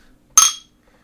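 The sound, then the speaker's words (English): A single bright clink of Bud Light Orange beer bottles tapped together in a toast, fairly loud, ringing briefly before fading into quiet. No talking. “So, let's take a sip first.”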